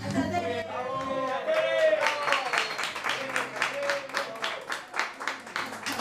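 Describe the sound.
An audience at La Solana, at a live singing event, breaks into steady, dense applause, with voices and a few cheers rising over the start before the rhythmic clapping carries on loudly to the end.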